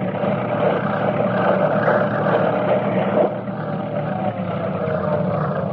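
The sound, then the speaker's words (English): Two heavy bulldozers, driven by two men, grinding over the wilderness, one heading south from Fairbanks and the other north from Dawson Creek, in a steady, loud diesel roar: a dense low rumble with a harsh mechanical texture that holds evenly, dipping only slightly partway through. No voices are heard. “These two men are driving great heavy bulldozers, one south having come from Fairbanks, the other north up from Dawson Creek.”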